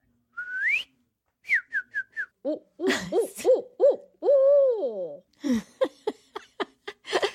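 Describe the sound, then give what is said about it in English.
A person imitates a barred owl, voicing a rapid run of rising, whooping hoots that swell into a drawn-out wavering call, then trail off in choppy clipped hoots, fairly loud. “I can give you a hoot if you'd like.”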